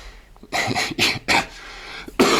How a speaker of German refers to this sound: Verzeihung, mich hat ein Husten. Man hört es wahrscheinlich auch. Bin etwas angeschlagen.